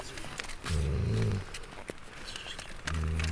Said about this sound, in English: They put a hood over his head so he doesn't sense what's going on around him, and he's just flat out, completely calm. Everyone's speaking very, very quietly, respectfully. He can even hear the cat snoring.